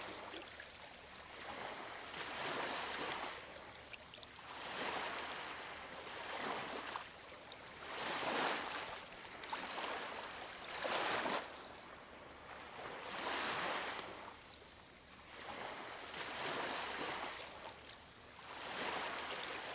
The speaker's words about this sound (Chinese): 想象海浪在自然放松的节奏中，涌来又退去。